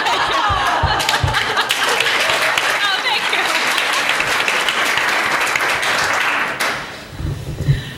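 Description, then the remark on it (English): Scattered applause, a steady patter of hand claps lasting about six and a half seconds, then stopping abruptly, leaving faint low rustling and murmur. “So as a saddest clap of all time.”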